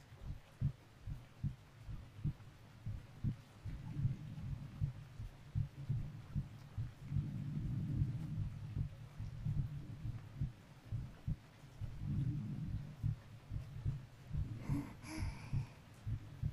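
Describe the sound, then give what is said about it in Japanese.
A human heartbeat thumps steadily, low muffled double beats repeating at a slow, even pace for the whole stretch, with a soft hum underneath and no talking. “人って人の心音を聞くだけで心が落ち着くんだよね。”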